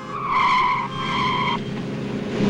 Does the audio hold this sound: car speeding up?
yes